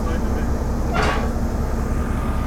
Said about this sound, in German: hier auf dem Bahnhof in Seebruck rangiert eine rote kleine alte Diesellok. Einen offenen Güterwagen hat eben angesetzt.